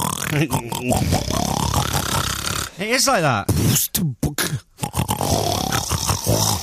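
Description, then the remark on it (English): A person imitates a pig with a run of rough, throaty grunts and snorty oinks, loud and repeated in quick bursts, mixed with bits of spoken talk. “Oh, do you ever do that where you do a pig noise too many times and it makes the back of your throat tickle and everything else and you feel a bit dizzy?”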